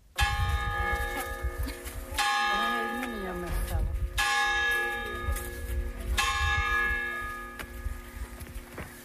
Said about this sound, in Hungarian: Nos, egy ilyen Szent Családi járást sikerült megtalálnom, nem ugyan Hodoson, egy kevéssel feljebb a kétágú Nyárád völgyében, Nyárád remetén. Időt is, gyülekezőt is kongatott itt a kis harang.